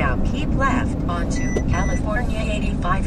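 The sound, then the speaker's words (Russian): Steady, loud traffic rumble in the street from inside a car, with people talking over it throughout as they wait to let another car pass before turning left; no distinct pass-by swell stands out, just continuous road noise. “Да, сейчас машину надо пропустить.”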